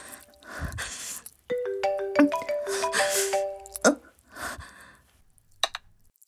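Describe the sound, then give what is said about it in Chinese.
A phone ringtone for an incoming call from the father plays a short, bright electronic melody of stepped tones for a couple of seconds. It is fairly loud and surrounded by soft breathy rustling and handling noises. “停一下，是你爸爸的电话，我得接一下。”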